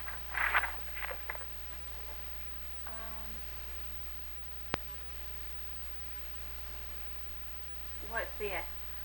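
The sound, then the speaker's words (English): A few short, harsh coughs burst out at the start, then a quiet stretch with a faint tone and a sharp click, and another rough cluster of coughs near the end. “What's this? Cough.”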